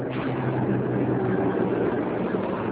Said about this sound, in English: A lone bus rolls down an eerily quiet street in Little Havana.